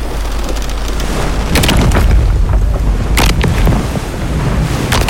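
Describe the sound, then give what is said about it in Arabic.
Heavy booming crashes burst out twice as a cargo ship bound for the port of Sicily splits apart in the middle when its sail falls. They sound over a constant loud roar of strengthening wind and churning sea with rising waves, with deep low rumbling throughout and no voices. “يطيح الشراع عليهم ويقسم السفينة من النص.”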